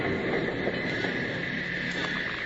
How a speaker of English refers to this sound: It was 4 days later when the train from St. Louis arrived at the Eagle's Nest station. Bill, Jingles, and Packer watched it come to a stop, but stayed out of sight.